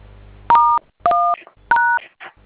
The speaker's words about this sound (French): Composez le code là sur votre téléphone, monsieur, d'accord?